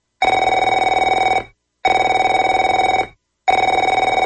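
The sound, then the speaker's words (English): A telephone rings three times in a steady pattern, each loud electronic burst lasting over a second with short silent gaps between. The tone is bright and buzzy, with no voices. “Afraid to answer it?”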